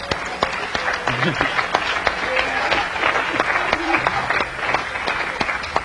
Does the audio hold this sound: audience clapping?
yes